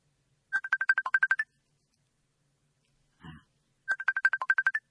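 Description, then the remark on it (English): A phone ringtone for an incoming call to a live radio program plays as a quick burst of rapid electronic chirps. It pauses with a brief muffled knock in between, then repeats the same trilling pattern. It is loud, with no talking. “Angus, answer the phone, Gail.”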